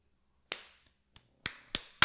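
A few sharp hand claps at an uneven pace, four loud cracks with a couple of faint taps in between, with no voices.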